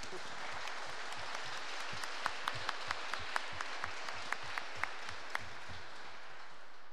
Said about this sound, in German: Nicht schlecht, ein Applaus.